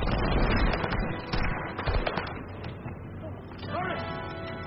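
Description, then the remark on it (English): Heavy cannon fire booms through a chaotic battle scene, with repeated loud blasts and crackling gunfire layered together and shouting voices faintly mixed into the din. “Second cannon, fire!”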